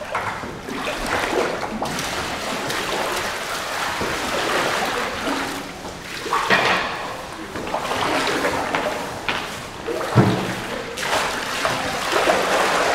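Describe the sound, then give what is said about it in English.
Water pours steadily into thickening mud, a continuous wet gurgling and sloshing that swells and eases in a few surges over several seconds. “Should we keep putting water in?”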